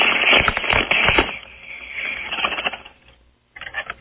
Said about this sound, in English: He wants to do a bong hit on the air. Go ahead with that. I hear it.